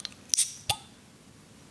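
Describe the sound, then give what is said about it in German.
A Heineken beer bottle cap pops off with a brief, bright fizzing hiss, followed a moment later by a second sharp click, then quiet. No one speaks. “Es ist ein gutes Zischen.”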